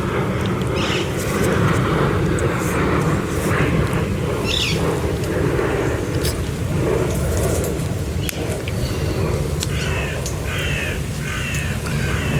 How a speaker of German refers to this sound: jetzt fliegt da ein Flugzeug über mir und versucht, den Vögeln Konkurrenz zu machen. Ich warte jetzt mal einen kurzen Moment.